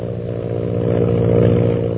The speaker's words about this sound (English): Lily DeVril's powerful plane zooms on in an attempt to elude the mysterious pursuer.